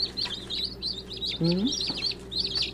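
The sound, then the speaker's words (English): A crowd of baby chicks peeping nonstop, bright high chirps overlapping in quick succession, with a brief low murmuring sound partway through. “You know, it takes about 4 to 6 months before they grow up to a big chicken, Mr.”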